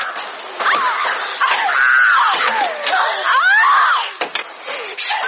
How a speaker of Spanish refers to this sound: Del borde de un estante una chica va cogiendo tazas y las arroja, una tras otra, al suelo. Otra chica, con la pata de una silla, golpea contra una mesa. Hay gritos y alboroto.